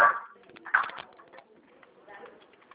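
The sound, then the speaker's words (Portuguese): A dog makes a few short, whiny vocal sounds in the background, coming in brief bursts separated by quieter gaps, fairly soft. “Não sei, não, desculpa, é um cachorro.”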